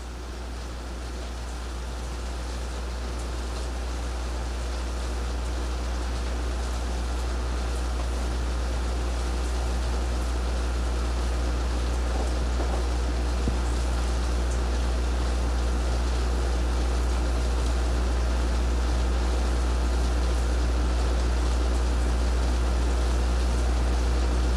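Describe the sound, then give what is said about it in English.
Steady rain falls in an even, unbroken hiss with a deep low rumble beneath it, slowly swelling slightly in loudness. No voices are heard. “Let us enjoy our breathing. with the sound of the rain”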